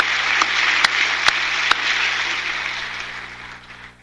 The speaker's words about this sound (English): Let's go to the beginning of this. They clap for 2 minutes. She's sitting down.